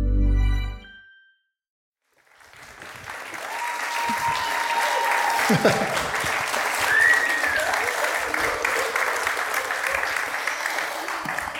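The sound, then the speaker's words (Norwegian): A live audience at Union Scene applauds in a dense, steady roar of clapping that starts after a brief silence and keeps going, with a couple of whistles rising above the crowd. “Var ikke det en veldig uvant lyd? Ja, veldig uvant. Lyden av mennesker.”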